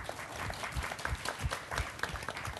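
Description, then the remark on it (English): An audience applauds steadily, many hands clapping in a dense, even patter with no voices over it, holding at a moderate level for a few seconds. “We're hearing such depressing information, and yet we're applauding you.”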